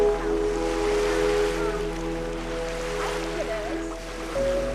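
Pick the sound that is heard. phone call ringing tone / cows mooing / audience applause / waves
waves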